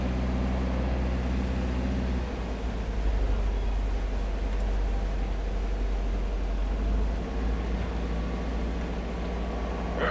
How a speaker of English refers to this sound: Keep your hands and arms inside the windows so I can dock the boat. We get it tied up outside. Make it safe for you to unload.